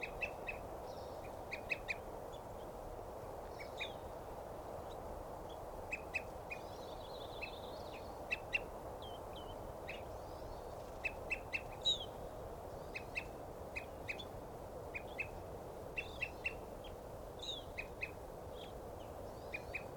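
bird calls

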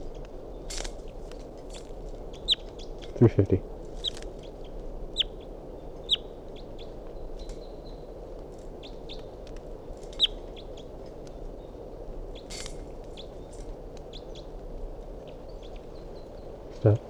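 wild bird calls

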